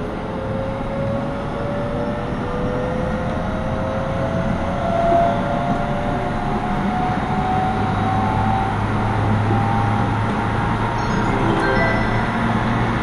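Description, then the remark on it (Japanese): A steady, loud rumble of a Tsukuba Express local commuter train bound for Moriya, stopping at every station, heading to Kashiwanoha Campus station, heard from inside the car, with a rising motor whine sweeping upward over the continuous low roar of wheels on track. “Thank you for using the Tsukuba Express line today. This is a local train for Moria.”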